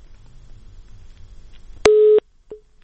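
A steady telephone busy tone sounds loudly for about a third of a second after low line noise, followed by a brief fainter beep as a call cuts off.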